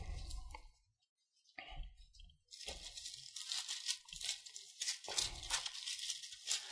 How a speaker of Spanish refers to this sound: Qué bueno cuando suenan las hojas de la Biblia.